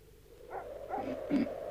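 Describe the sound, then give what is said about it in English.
A dog barks three times in a steady rhythm, muffled, over a low background hum with no voices. “You hear that blooming dog? Something must have disturbed him.”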